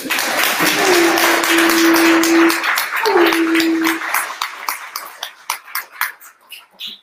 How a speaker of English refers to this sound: Go ahead and give me a clap.